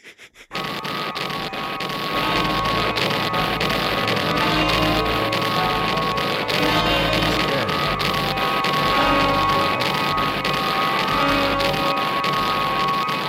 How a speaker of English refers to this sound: I recorded all the explosions, which is about a total of 40 seconds of just...